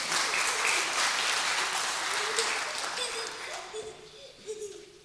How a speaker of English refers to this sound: Round of applause for our volunteers. Thank you.